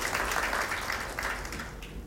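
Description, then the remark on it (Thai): An audience applauds to thank a guest speaker, a dense wash of many hands clapping at once, moderately loud and sustained without pause for about two seconds. “และในโอกาสนี้ค่ะต้องขอกราบขอบคุณท่านอาจารย์หมอวิจารณ์เป็นอย่างสูงนะคะที่กรุณาสละเวลามาแลกเปลี่ยนกับพวกเราในวันนี้นะคะขอเสียงปรบมือแทนคำขอบคุณจากพวกเราทุกคนค่ะ”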